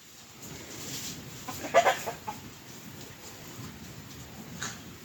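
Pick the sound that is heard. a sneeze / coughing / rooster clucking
rooster clucking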